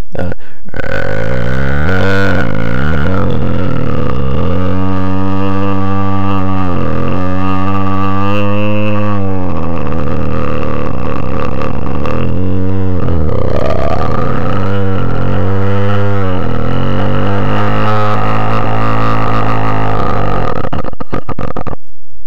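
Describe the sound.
A voice imitates a weed eater with a loud, buzzing, throaty drone that revs up and down in pitch across several sustained bursts, with brief pauses between them and no words spoken.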